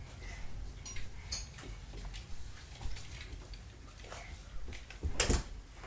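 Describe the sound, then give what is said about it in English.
Faint creaks and light ticks lead up to a single dull thud near the end as a door is pushed closed, with a soft hum throughout and no talking. “Can you shut the door, please?”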